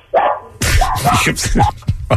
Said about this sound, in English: I can't have a dog chorus, Beth. You know, dog choruses are distracting.